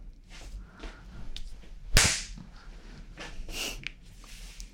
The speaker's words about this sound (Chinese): 舒服吗？被主人扇耳光很舒服。